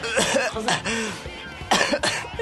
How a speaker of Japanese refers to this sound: これ咳ですよね。 咳。 あー出そうで収まった。